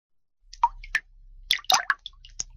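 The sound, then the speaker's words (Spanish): A faucet drips, a handful of distinct watery plops falling at uneven intervals, with a brief cluster of drops near the end over a faint low hum. “Repara las tuberías y las llaves que goteen en cocinas y baños.”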